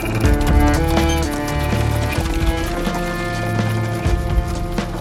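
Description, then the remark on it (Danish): Steady, fairly loud clip-clopping hooves of a horse-drawn cart arriving at Såby, a small village outside Roskilde, Denmark, in August 1714, with sustained musical tones layered underneath throughout. “Sissel hopper ned fra hestevognen, som har givet hende et lift det sidste stykke.”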